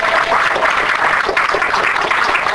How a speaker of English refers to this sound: Okay, let's give a round of applause again to Dr. Brown.